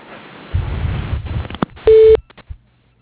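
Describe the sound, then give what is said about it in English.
Low rumbling phone line noise gives way to a single loud, steady answering machine beep on the Johnson Electric line, lasting about a quarter second, followed by a couple of faint clicks and then silence. “We cannot get to the phone right now, so please leave a message.”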